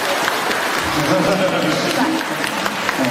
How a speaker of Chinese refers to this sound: 谢谢。 鼓掌。啊，你们不鼓掌，我不看了。